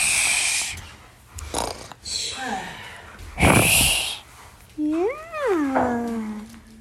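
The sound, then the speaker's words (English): A child's voice imitates snoring with a few rough, snorting breaths, then ends on a short voiced hum that rises and falls in pitch, fairly loud. “Can you do your snore?”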